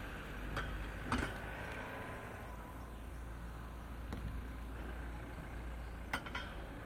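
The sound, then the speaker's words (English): Car boot traders' vans rolling in, heard as a steady low engine rumble that fills the background, broken by a few sharp clicks scattered through it. No one speaks. “That's the vans coming in now.”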